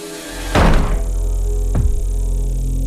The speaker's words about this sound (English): Okay, there's the knock at the cabin.